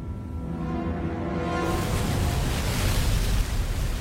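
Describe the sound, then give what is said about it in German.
A dense, steady roar of rushing water from a waterfall swells in and fills the scene, loud, with low tones underneath fading as the torrent takes over; no one speaks. “Ist das ein Wasserfall?”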